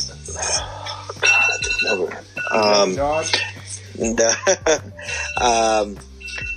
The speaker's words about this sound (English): Somebody's alarm going off.